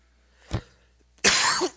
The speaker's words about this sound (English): Man, I'm sorry about the coughing.